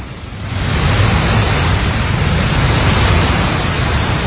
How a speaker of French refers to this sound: C'est donc au bord de la rivière Inkissi, avec le bourdonnement de ses chutes et les cris d'oiseaux, loin de la bruyante ville de Kinshasa